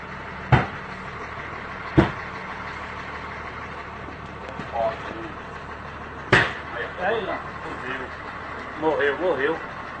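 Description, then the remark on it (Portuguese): A car engine idles with a steady, rumbling drone, broken by three sharp knocks as it struggles and stalls, while people talk briefly over it. “Morreu. Morreu.”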